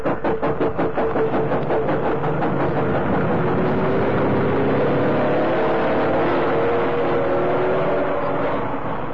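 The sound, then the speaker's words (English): Heavy engines of a couple of lorries, loaded with cigarettes on the road beside a railway embankment, rumble loudly, revving up with a rising pitch as they pull away, a steady throbbing roar filling the whole stretch with no voices. “Waiting on the road by the side of the embankment were a couple of lorries.”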